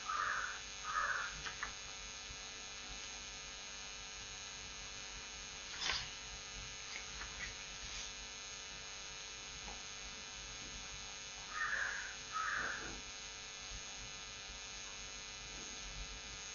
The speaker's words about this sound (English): Crow wants to come to the Bhagavatam class.